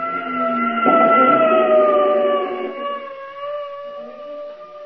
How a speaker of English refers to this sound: And then it was gone, an ambulance, going right past me.